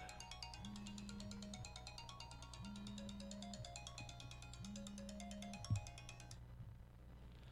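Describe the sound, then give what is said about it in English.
A phone ringtone for an incoming call to the radio show Swap Shop plays a bright, repeating melodic pattern over a low pulsing buzz, cycling about three times before cutting off abruptly near the end. No one speaks. “I'm sorry about that. I have a phone call here.”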